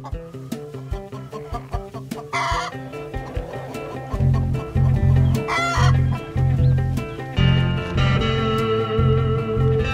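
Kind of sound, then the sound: bird, chickens clucking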